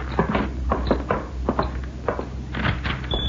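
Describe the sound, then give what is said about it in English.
A door is opened, with a series of wooden clunks and rattling knocks over a low rumble, and no one speaking. “Maybe you'd better we leave the door open so Pancho can get out of here in a hurry.”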